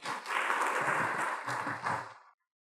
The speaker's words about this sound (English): Hallelujah. You can do better than that. You can clap your hand better than that. You can do more than that.